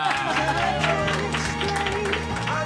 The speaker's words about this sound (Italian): Ma vi abbiamo fatto saltare 2 ore di lezione? Altro applauso allora!